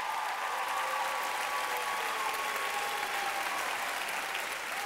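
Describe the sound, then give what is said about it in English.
A crowd claps its hands at a preacher's call, clapping steadily throughout, a dense, even wash of many hands with no pauses, with faint whoops or tonal cries blending in beneath the applause. “Clap your hands like it's about to.”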